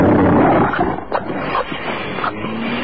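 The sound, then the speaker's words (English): A dog chews and worries at a police officer's paper ticket book, with rough tearing and gnawing noises, a few sharp snaps, and low growly rumbles. No one speaks. “The dog's eating it.”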